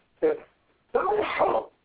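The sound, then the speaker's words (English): A loud sneeze in two parts: a short catch followed by a longer, breathy burst that trails off, with no talking around it. “Bless you.”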